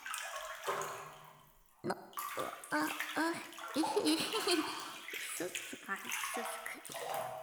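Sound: water splashing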